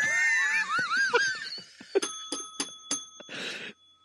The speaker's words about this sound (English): Was that an appropriate use of the bell, sir? That was great.